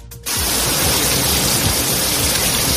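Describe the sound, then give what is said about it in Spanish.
Steady, dense hiss of rain falling in Spain during Easter week. It starts abruptly after a brief quiet moment and continues loud and even throughout, with no voices. “Han sido unos días en los que la lluvia, el viento y la nieve han sido los grandes protagonistas.”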